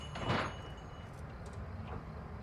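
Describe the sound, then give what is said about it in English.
The door of an antique shop swings shut with a soft thud near the start as the shop is closed up and the door locked, followed by a quieter knock or click a moment later over a low background hum. “She hangs the closed sign and exits the shop. She locks the door and heads around the corner to her truck.”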